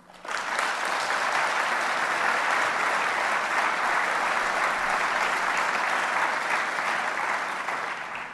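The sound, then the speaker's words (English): A large audience at an investment conference applauds steadily for about eight seconds, a dense, even wash of clapping that starts abruptly and holds at a constant loud level with no voices over it. “I want to go outside the usual format for this investment and ask for this conference and ask this audience by applause who agrees with me that there should be some significant consequence to the folks at Allied Capital for what they have done.”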